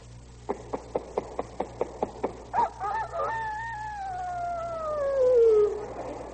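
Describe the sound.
A string of about nine quick, evenly spaced clucks, then a long, drawn-out crow that wavers and slides downward: a human voice imitating a year-old rooster, clear, with no talking.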